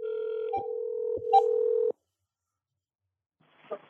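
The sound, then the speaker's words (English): A steady telephone dial tone is interrupted by a few short keypad beeps as a number is dialed to call someone's phone, then cuts off, leaving silence before a faint click-like sound at the end. “I'll call on his phone, and then I'll keep you on the phone”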